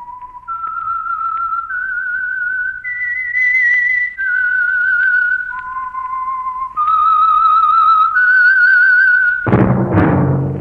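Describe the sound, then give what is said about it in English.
A lone whistler carries a slow, eerie melody as a program's theme tune, in clear sustained notes that step up and down, ending with a brief burst of noise; no voices are heard. “That whistle is your invitation to listen to the Household Finance program, The Whistler.”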